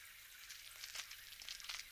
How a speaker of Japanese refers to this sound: ご主人様、シャワーの温度はどうかしら。大丈夫ならいいわ。